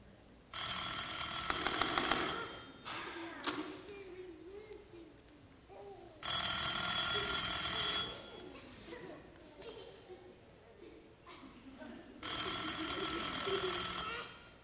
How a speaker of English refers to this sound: Your shoe is ringing? Ah, yes, my shoe phone. Please excuse me.